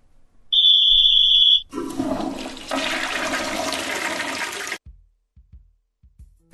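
A toilet flushes loudly, a rushing roar of water lasting about three seconds, preceded by a brief steady high-pitched tone and followed by quiet gurgling drips.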